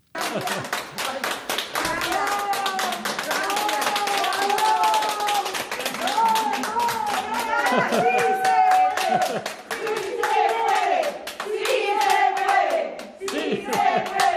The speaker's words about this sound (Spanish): Vamos a escuchar un poquito de los aplausos.